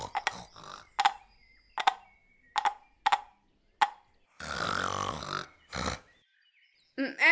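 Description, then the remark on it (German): An animal grunts in a forest in a series of short, throaty bursts at a steady, halting rhythm, then lets out a longer rasping growl followed by another grunt, with no voices present. “Im nächsten Wald hörte er plötzlich ein Grunzen und er folgte den Geräuschen.”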